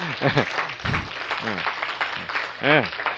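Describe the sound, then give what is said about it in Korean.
A crowd claps steadily for a few seconds, a dense wash of hands, with scattered voices calling out and cheering over the applause. “총대 진 거 하나는 제가 확실히 인정합니다. 아시겠어요? 박수.”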